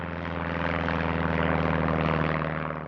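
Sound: airplane engine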